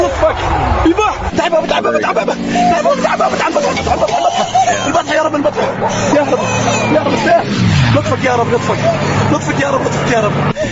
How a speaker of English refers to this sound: Airplane sounds to the audio. Yeah. So that it sounds like airplanes are flying overhead.